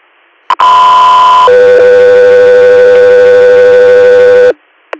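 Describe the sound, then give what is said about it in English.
Two loud, steady electronic radio dispatch alert tones for Guthrie Air play in sequence: a higher pitched tone for about a second, then a lower one held for about three seconds, bracketed by short clicks. “Guthrie, stand by for tones.”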